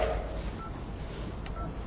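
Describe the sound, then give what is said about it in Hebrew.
A couple of short telephone keypad tones beep one after another as a password is entered, each a brief steady pitch, over a constant low rumbling background with no one talking. “תקישו את הסיסמה של”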